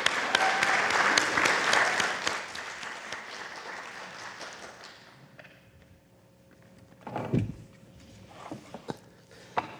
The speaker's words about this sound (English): And let's do lots of clapping today. It just seems fitting.